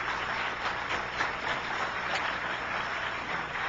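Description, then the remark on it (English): An audience claps steadily for two contestants, a dense, crackling wash of many hands that holds at an even level for several seconds with no voices over it. “A round of applause, I think, is due again for our two fine contestants.”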